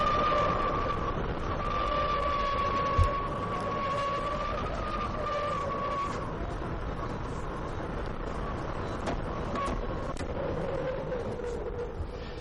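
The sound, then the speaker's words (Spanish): Strong wind blows down a street in Madrid at about 8 in the morning, during an orange warning for a storm of rain and wind, in a steady, loud roaring rush, with a thin whistling tone wavering above it and a single brief knock early on. “Ya lo ven, así sopla, así suena el viento a estas horas de la mañana.”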